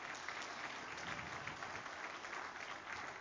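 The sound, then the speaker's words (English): An audience at a morning church service claps together in a dense, sustained burst of applause, steady and fairly loud throughout, with no pauses and no voices standing out above the crowd. “Give him a good clap offering this morning, would you?”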